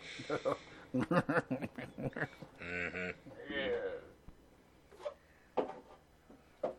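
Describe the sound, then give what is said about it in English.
Someone blows their nose: a honking, harmonic snort followed by a longer, rough nasal gust, with scattered sniffs, shuffling and small vocal sounds around it. “I got to blow my nose.”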